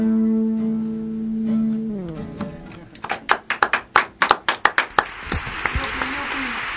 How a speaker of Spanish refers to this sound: Ahí esperan los aplausos